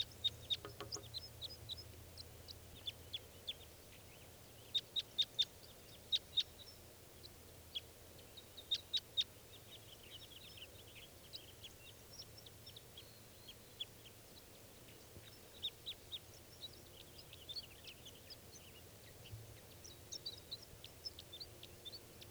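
female bird calling

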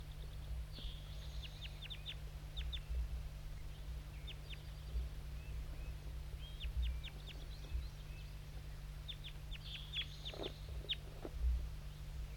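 crossbill calling

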